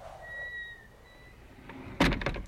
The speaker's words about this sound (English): You go to an old cabin and open the creaky door and creep inside.